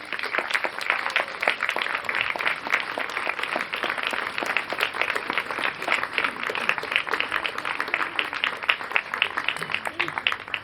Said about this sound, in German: Bitte für alle diese Leute einen Willkommensapplaus.